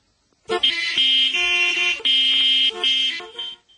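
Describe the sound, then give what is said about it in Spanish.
Several loud car horns honk in quick succession, overlapping blasts with a few short breaks, in busy traffic. “El tráfico puede subir hasta 100 decibelios.”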